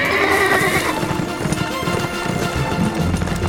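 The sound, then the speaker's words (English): The horse Blazer whinnies loudly, its high shrill call trailing off, while hooves clop steadily and quickly underneath, continuing after the neigh fades. “Quentin raised an arm in farewell to Dekra, and then turned to his horse. It's time for speed.”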